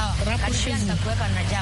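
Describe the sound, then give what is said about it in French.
Steady low rumble of road traffic fills the background while voices talk over it, with the engine noise constant and moderately loud throughout. “Je vois qu'il y a un peu de circulation.”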